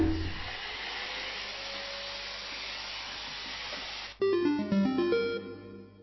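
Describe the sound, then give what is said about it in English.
A vacuum cleaner that has fallen while being reached for on the grand stairs switches itself on and roars with a steady, loud whooshing drone for about four seconds, then cuts off abruptly as a short run of bright electronic tones plays alone. “Saddam reaches for the hoover and misses, but the vacuum doesn't. It falls and gives Saddam instant concussion and duly switches itself on.”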